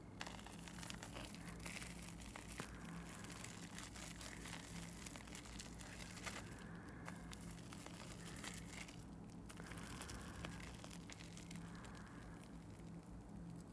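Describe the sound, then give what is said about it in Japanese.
Carbonated shampoo foam fizzes in a cupped palm, a dense, steady crackle of tiny popping bubbles that stays soft and even throughout, with no voices. “ああ、手のひらで炭酸がシュワシュワしてちょっとくすぐったい。”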